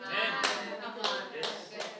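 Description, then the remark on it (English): An audience claps together in a steady rhythm, sharp bursts landing about every half second over a continuous wash of crowd noise and voices. “Come on, 1% is clapping, everybody is clapping.”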